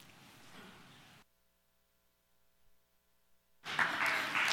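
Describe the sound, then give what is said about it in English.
Two bursts of dense, crackly applause-like clapping, a softer stretch at the start, then near-silence, then a louder wash of clapping near the end. No one speaks. “Why are you clapping?”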